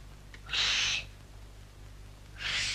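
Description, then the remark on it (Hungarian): Two loud, breathy two-finger whistle blasts by a child, high and airy with more rushing air than clear tone; the first lasts about half a second, the second comes after a pause. “Még két ujjal fütyülni sem.”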